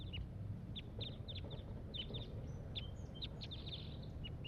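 Call notes of one wild crossbill up in the top of a pine tree: short, sharp, high-pitched chips repeated in irregular clusters over a steady low rumble of background noise, with no talking.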